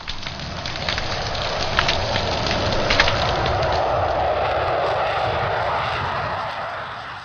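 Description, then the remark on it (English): Snapping shrimp crackle on a reef in a dense, continuous wash of sharp clicks and pops, steady and fairly loud throughout, with brighter snaps standing out now and then and no voices. “Extremely loud at the scale of a small shrimp.”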